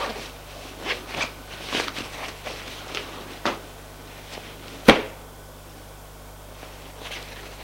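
Quiet rustles and swishes of fabric as trousers are pulled down, with a zipper sound, several short scrapes, then one sharp snap before the noise fades.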